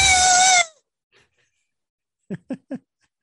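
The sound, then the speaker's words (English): Someone imitates a sharp, shrill scream that comes from the other end of a hall: one loud, high-pitched cry lasting about half a second, then a pause and three quick, short vocal bursts close together. “Suddenly, Steve's resuscitation is severed by a sharp scream from the other end of the hall.”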